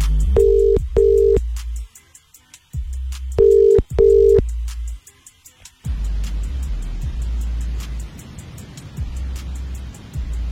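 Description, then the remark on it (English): An outgoing phone call's ringing tone, placed by the radio station Capital Extra to a listener, sounds twice as a pair of short double rings, clear and steady, then stops as the line connects to a low background hiss. “If I call you, please answer the phone.”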